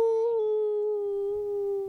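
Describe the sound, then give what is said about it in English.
A family howls together in imitation of a wolf after a countdown, holding one long, steady, loud note that barely wavers from start to finish. “Should we do a final family howl? The only way that wolves know how.”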